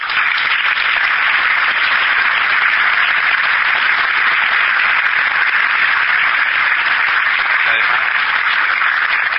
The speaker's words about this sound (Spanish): En este punto les cuento que uno de los principales profesores, tal vez quien haya puesto más energía en este programa, en impulsar este programa, es el profesor Jorge Martínez Torena, a quien quiero que aplaudan.